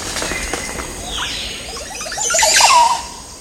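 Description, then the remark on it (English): A male Montezuma Oropendola's display song, sung for a female as he swings from a tree branch in a Central American forest, in a tree bearing 20 or more oropendola nests: a run of liquid, gurgling notes building into a loud, bright, sweeping gurgle toward the end, with no voices. “Listen to this song. It's a male Montezuma Oropendula displaying for a female while he swings from a tree branch in a Central American forest.”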